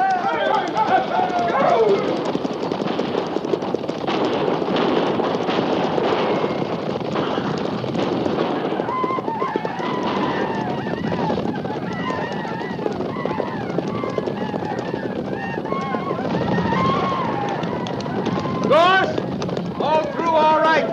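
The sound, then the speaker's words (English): Many cavalry horses gallop hard in a charge to ride through to a wagon train, making a loud, continuous rumble of hooves, with men shouting and yelling over the charge throughout. “Stay low in the saddle, and we'll ride straight through.”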